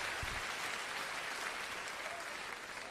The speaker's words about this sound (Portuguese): Oh, aplauda ao Senhor, fique de pé nesta hora.